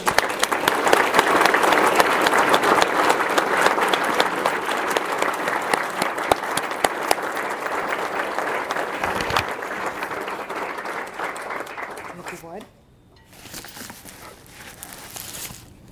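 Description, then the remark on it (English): A large crowd cheers a coach from Prayers for Life, clapping and cheering loudly and steadily for about twelve seconds. The dense roar of applause then tapers off into scattered claps and murmuring. “Let's give him a rousing cheer for the coach of Prayers for Life years.”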